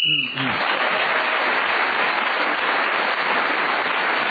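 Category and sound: signal or alarm, whistle blown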